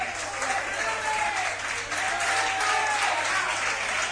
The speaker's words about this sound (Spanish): Se va ahí a Belardo con el 9. Y entra por parte del Bollullos Club de Fútbol número 17, que es Samu Gómez. Ante los aplausos de su hinchada, se va por la banda.